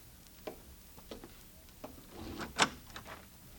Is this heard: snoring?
no